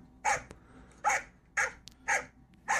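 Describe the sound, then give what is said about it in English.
A Belgian Malinois barks five times in a steady rhythm, each bark loud, sharp and harsh-toned, with brief quiet gaps between them and no voices. “And I have a video of a Belgian Malinois barking.”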